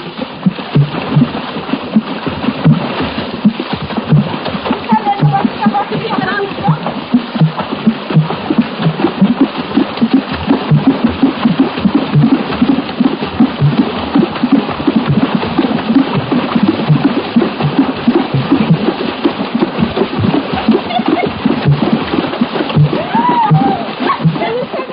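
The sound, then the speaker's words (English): Village women in Gabon, dancing hip-deep in a pool, beat the water with cupped hands as a water drum, making a steady stream of hollow, rhythmic splashing thuds in alternating higher and lower tones, continuous throughout. “While dancing, virtually naked, they beat the water with their cupped hands, thereby producing the different rhythmic tones you hear.”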